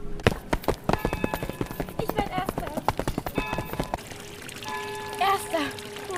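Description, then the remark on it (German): Rapid clattering footsteps give way to a steady, hissing splash of the Schuster Jobs fountain at a weekly market as the market empties, with children's voices and chatter rising over the watery wash. “So langsam leert sich der Markt wieder und nun ist auch das Plätschern des Brunnens wieder zu hören.”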